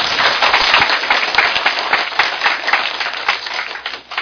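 An audience at a lecture in Taichung, Taiwan, applauds steadily to welcome the professor giving the talk, a dense wash of many hands clapping at once, loud and sustained throughout with no voices over it.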